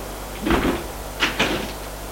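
A door sounds as someone knocks at it: a brief rattling scrape followed by two quick, sharp thuds, with no one speaking over a quiet background.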